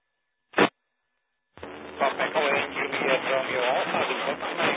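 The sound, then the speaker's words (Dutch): A brief crackle of radio static, a pause, then a steady, muffled hiss of channel noise with garbled, voice-like fragments buried in it, as if tuned to a weak transmission. “Maar kwam hier alleen maar ruis binnen.”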